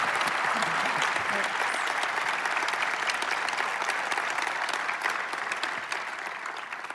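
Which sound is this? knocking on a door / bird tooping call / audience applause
audience applause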